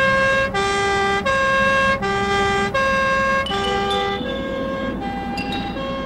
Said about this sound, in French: Mais la sirène, ça lui ferma sa gueule!